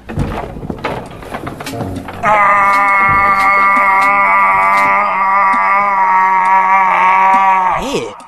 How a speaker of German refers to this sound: Sie haben eine Uhr, die schreien kann. Ein Wecker.